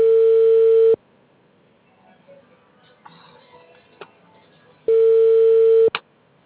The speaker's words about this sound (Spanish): Ay, Dios mío. No me quiere contestar el teléfono.